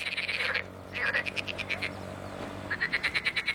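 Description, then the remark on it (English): Frogs croaking in a marsh near Basra in southern Iraq, a rapid rhythmic chorus of pulsing calls in bursts with short gaps, steady over a low background hum. “Frogs in the marshes near Basra.”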